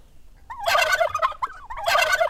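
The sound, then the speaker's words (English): A turkey gobbles loudly, two rapid rattling bursts of its warbling call separated by a short pause, with no talking. “I have 2 pigs named Willow and Rainy, 3 turkeys, 5 chickens”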